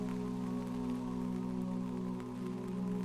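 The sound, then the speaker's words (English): Steady rain patters continuously on the leaves of ash trees high overhead in a woodland on a spring day, a dense wash of tiny droplet taps, set against a constant low tonal hum that stays level throughout, with no voices. “You can hear the leaves of the ash trees high above you rustling as each droplet lands.”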